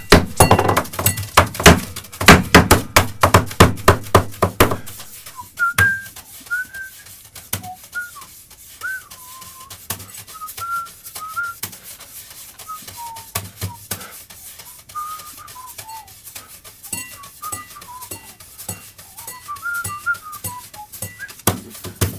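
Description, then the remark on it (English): A drummer's hands drum rapidly on a studio tabletop and a glass, dense thumping at first, then sparser knocks and clinks while someone whistles a wavering tune over the rhythm. “playing our studio table and a glass.”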